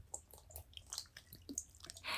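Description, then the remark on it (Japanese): Wet mouth noises: a quick irregular run of squelchy gulps and swallowing smacks as thick, sticky saliva is gulped down, with small clicks between them, fairly quiet and with no talking. “もっとごくごく飲んでる音聞かせなさい。”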